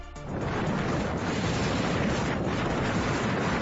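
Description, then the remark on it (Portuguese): A loud, continuous roar of storm waves more than 10 metres high pounding the rocky Galician coast at Corrubedo, Ribeira, during storm Domingos, with heavy wind buffeting throughout and no distinct pauses between surges. “pero que ha provocado uno de esos temporales de mar que se van a recordar, tanto por lo espectacular de ver olas de más de 10 metros golpeando contra la costa gallega”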